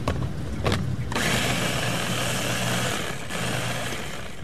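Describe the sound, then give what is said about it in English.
A blender whirs loudly as chef Mariah Gladstone blends lamb's quarters, a wild green, for pesto at a live cooking demonstration, starting with a few choppy pulses before settling into a steady, grinding motor roar with a low hum underneath. “Today, Gladstone stuffs a wild green called lamb's quarters into a blender.”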